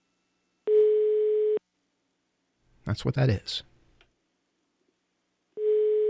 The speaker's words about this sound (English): And we're actually calling overseas right now. And let's see if that worked. Sometimes, because I can't hear the touch tone, sometimes it doesn't work. So, next thing you hear should be a phone ringing in Germany.